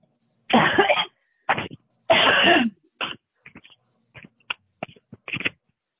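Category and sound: human body sound, coughing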